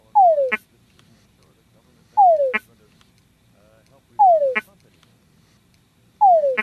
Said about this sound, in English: So we just heard the sound of the tundra frog, and you were kind of explaining the different sounds that the male makes. And if you see in the video, you see that the female is slowly approaching, almost with each croak.